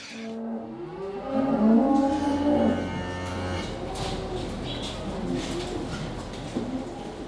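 Dairy cows low in a milking shed during milking on a 97-hectare farm, one long, loud moo rising and falling over steady machinery hum, with birds cooing and chirping faintly in the background.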